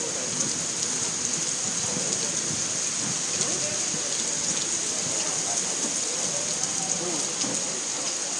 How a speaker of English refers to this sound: And it's raining sideways.